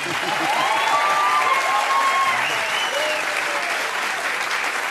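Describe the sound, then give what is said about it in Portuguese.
The audience of the show Conversa applauds a drummer who sings while playing, steadily, a dense, even wash of clapping that holds at a constant level for the whole stretch, with faint cheering or voices mixed in. “Pode aplaudir.”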